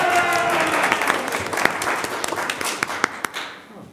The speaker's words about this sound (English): God stood before the gathered council and said, there were gasps and cries of delight and exclamations of joy and much applause.